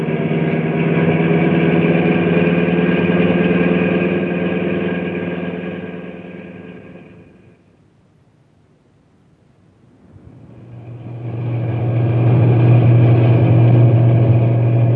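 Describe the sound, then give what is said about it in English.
A loud truck engine roars at a steady pitch, fades away to near silence midway, then surges back up with a deeper, heavier drone as the truck is driven as fast as it will go through a park. No one speaks. “I'm going as fast as the truck will go.”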